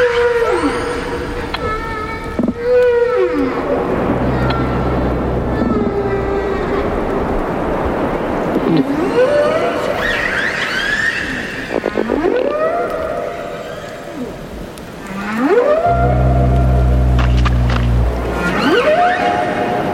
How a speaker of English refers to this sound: It includes humpback whales in Hawaii, killer whales off of Vancouver Island, a dozen species of fish in the Caribbean. All this sound was recorded underwater in coral reefs and in the open ocean.